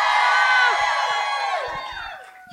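A large live audience at a comedy club screams and cheers together in a loud, sustained roar of high-pitched voices that holds for about two seconds before tapering off.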